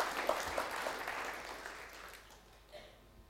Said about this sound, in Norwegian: Skal vi gi Jesus en applaus i formiddag? Han er verd vår lovsang.